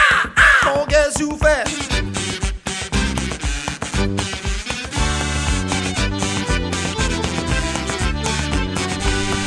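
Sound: crow cawing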